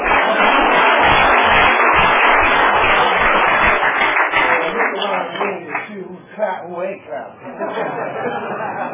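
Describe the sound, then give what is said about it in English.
A crowd applauds a speaker's announcement of his clean date, nearly 25 years clean, in a loud, dense burst of clapping mixed with cheers and chatter, thinning out after a few seconds as voices and scattered laughter take over. “Who ain't clapping?”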